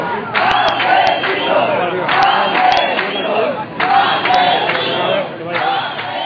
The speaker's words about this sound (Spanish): En la concentración se escucharon gritos de rabia por la muerte de Amparo, que es considerada como un auténtico asesinato de la administración, y gritos de protesta y para evidenciar que la lucha ciudadana continúa contra los continuos abusos